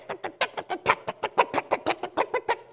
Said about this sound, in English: Like chickens in a chicken coop.